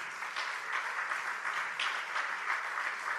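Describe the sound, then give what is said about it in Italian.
Steady applause from an audience as the musicians of a band are introduced, a dense wash of many hands clapping at an even level throughout, with no voices rising above it. “Allora, io non voglio fermare mai gli applausi, quindi voi fateceli arrivare, perché...”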